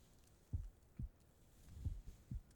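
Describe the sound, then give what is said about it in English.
A soft, muffled human heartbeat thumps low, several dull beats at a slow, steady pace with quiet hiss between them and no voices. “Can you hear my heart beating?”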